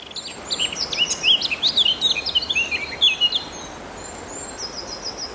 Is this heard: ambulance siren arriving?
no